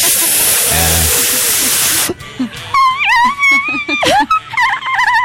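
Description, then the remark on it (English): A loud, steady rush of nitrous oxide hisses out of a balloon for about two seconds, then cuts off into warbling, high-pitched vocal sounds that waver and glide. “So he pulled out a balloon, gave it to you.”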